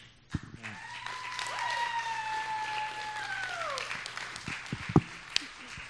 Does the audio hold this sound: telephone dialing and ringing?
no